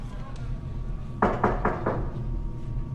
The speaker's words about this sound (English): Knock on the glass. Jack obeys.